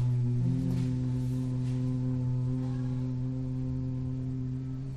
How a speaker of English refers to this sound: The true Om is the hum. Some people say the sound of Om is made up of three parts. Ah, Om, And Satchitananda reminds us that the true Om is the hum. Om.